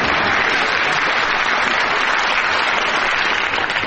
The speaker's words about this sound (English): Take half that applause